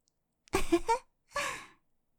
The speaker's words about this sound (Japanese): お耳に吐息がふーってかかるの、くすぐったいですか？